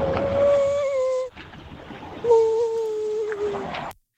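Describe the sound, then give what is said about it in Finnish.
A man walking outdoors imitates a humpback whale with two long, drawn-out moaning calls, each wavering slightly in pitch, separated by a short pause, over steady traffic noise in the background. “Meidän …, se painelee tuolla kuule jalka käyttävää ja pistää kuule ryhävalasta soimaan.”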